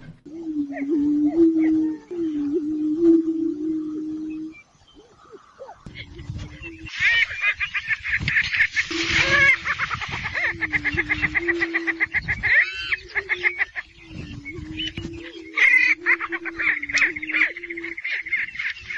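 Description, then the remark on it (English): Prairie chickens calling in Iowa: repeated low, hollow booming moans from several birds, joined after a few seconds by a busy chorus of higher cackles and whooping calls, continuous. “Prairie chickens were the birds that were here before pheasants.”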